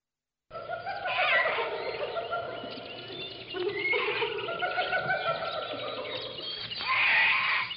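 Goats bleat loudly, wavering cries overlapping almost without pause for several seconds, with the strongest calls near the start, middle and end.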